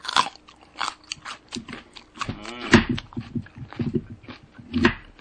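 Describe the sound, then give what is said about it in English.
Loud, crisp crunching of raw kohlrabi being chewed right at the microphone, a steady run of irregular bites and wet mastication bursts with no one talking. “Here, eat another one and chew near the mic. And then make sure, you know, you crunch it right in front of the mic.”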